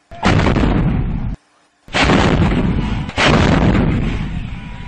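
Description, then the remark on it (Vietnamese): Loud, roaring bursts of a 122 mm rocket barrage at night at an airfield, salvos passing overhead and exploding all around: three long sustained blasts with a brief near-silent gap after the first, no voices present. “Từng loạt quả tiễn 122 ly vượt qua ngang đầu, những tiếng nổ chát chúa vang dội khắp nơi.”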